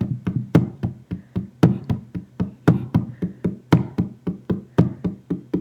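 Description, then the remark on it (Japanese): Quick, steady knocks tapped out to imitate the rhythm of someone's footsteps when running, about four per second, with some beats hitting harder than others in a repeating pattern. Dull, thudding hits with no talking over them. “いや、これね答え言うとね足音なんよ。 足音。 そう走る時のリズムが。”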